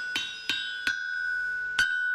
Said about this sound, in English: We mostly make them ourselves. These are just, that is a pin hammer. And as you work on that anvil, it's going to change.